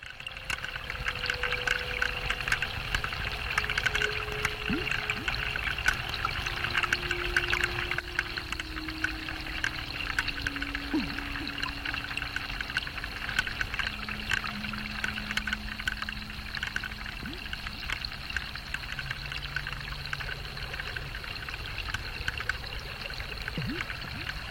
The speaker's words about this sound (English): We've been seeing all sorts of animals and plant growth at Wave Farm this week, but mostly we have been hearing the sound of water as rain has been falling from the skies and dripping from trees when it's not been raining.